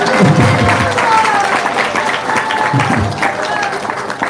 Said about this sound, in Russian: Бурный аплодисмент из этого выступления.